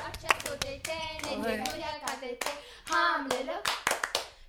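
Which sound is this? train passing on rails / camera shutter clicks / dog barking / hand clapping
hand clapping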